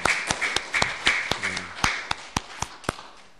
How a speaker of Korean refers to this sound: 예, 그러시면 우리 하나님께 한번 크게 감사의 박수를 올렸으면 좋겠습니다.